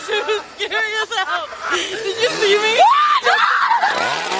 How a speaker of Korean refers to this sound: 귀신 배우들의 훌륭한 연기 탓일까요? 방문객들은 여기서도 저기서도 비명을 지르며 도망을 다니는데요.